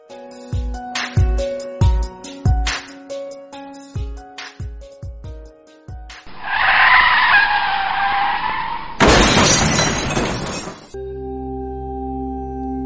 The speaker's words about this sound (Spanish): Fernando abre los ojos y aún sigue escuchando ese chirrido ensordecedor de frenos. No se lo quita de la cabeza.